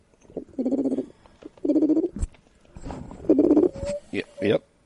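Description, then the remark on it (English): A person's voice imitates a mourning dove, giving a series of low, hollow, breathy coos in a slow rhythm, fairly loud, with a few short sharp noises in between. “And you can also talk to mourning doves.”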